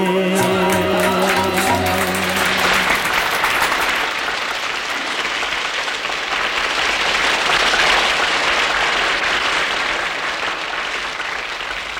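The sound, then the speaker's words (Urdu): A large audience at a Shama Khana gathering applauds loudly and steadily for several seconds for its first performer, the clapping dense and continuous, starting over the last fading notes of music and carrying on without talk. “تالیوں کی یہ گونج اس بات کا ثبوت ہے کہ شمع خانہ کی اولین شمع نے ہی محفل کو جگمگا کر رکھ دیا.”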